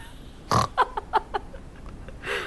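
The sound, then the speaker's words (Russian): Someone imitates a pig's grunt: a loud snorting grunt, a quick run of four shorter grunts, then one more snort after a pause. “Я говорю, скажите, а вы сегодня не хрюкали?”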